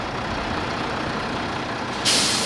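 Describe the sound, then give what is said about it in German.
A large red-and-white East German Ikarus coach bus rumbles steadily as it rolls up in front of a manor house, its engine noise filling the scene, then ends with a sharp, loud hiss of air brakes releasing. “Vor das Gutshaus rollt ein rot-weißer DDR-Reisebus, ein Icarus.”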